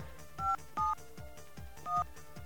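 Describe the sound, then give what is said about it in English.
Three short touch-tone beeps from a phone keypad being dialed, unevenly spaced, with a faint rhythmic clatter running underneath and no voices. “You can guess the rest of the phone number.”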